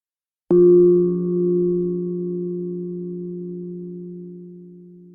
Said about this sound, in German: Wenn der Gong der Klangschale einmal erklingt, dürfen Sie mit der Übung beginnen.